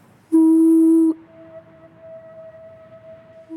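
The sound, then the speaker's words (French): Wind whistles through pipes in a town in the early morning, a loud, steady tonal moan that cuts in abruptly, holds for about a second, then drops to a fainter sustained hum lasting to the end. “Ce que j'adorais aussi, c'est vraiment un élément aussi qui me marquait quand j'étais petite, c'était le bruit du vent dans les tuyaux le matin, quand je me réveillais à 6 heures pour aller à l'école.”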